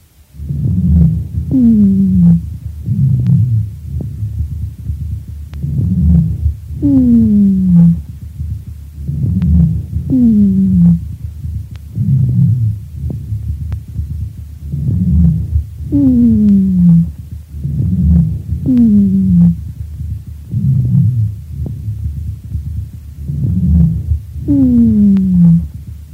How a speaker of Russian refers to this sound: Прослушайте запись сухих басовых хрипов, сделанную у другой больной хроническим бронхитом. Как и в предыдущем случае, основной дыхательный шум представлен жестким дыханием.